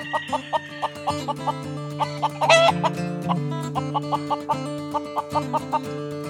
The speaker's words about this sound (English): Anyway, so we got to shut up so everybody can hear the chicken. I know it. You're all going to love them, and go get some chickens. Here they are.